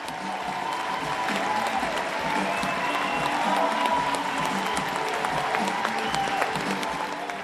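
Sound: audience applause and cheering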